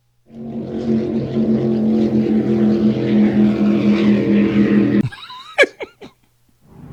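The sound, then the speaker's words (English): A speedboat's motor drones loudly and steadily over lake waves for about five seconds, then cuts off abruptly, followed by a few brief whooshing, chirping sweeps. “That's boat lake waves. I don't want speed. Boat, speedboat drive.”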